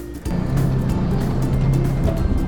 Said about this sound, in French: Et si vous aussi vous voulez vivre cette expérience de balade en voiture ancienne et connaître des sensations au goût d'autrefois